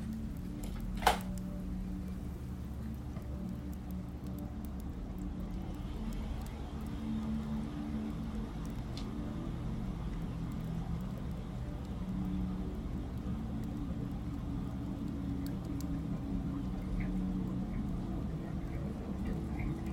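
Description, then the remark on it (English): A sharp click, then an electric kettle heating water to boil for a cup of peppermint tea, with a steady low rumble and faint hiss that holds evenly throughout and no one talking. “I was just going to make a cup of tea to sit with, a fancy wee peppermint one, I think, so let's get the kettle boiled, and just while that's happening, I'll just fill you in on something.”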